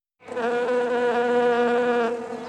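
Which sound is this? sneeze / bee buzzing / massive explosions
bee buzzing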